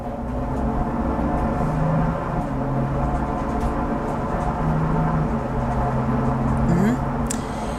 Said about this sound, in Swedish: Här har vi alltså inspelat i en hundbur på flaket under tiden som bilen kör, och det här låter ju en del. Och det är det här som hundförare menar är en stor anledning till att de här hundarna stressas och får svårt att klara av sitt arbete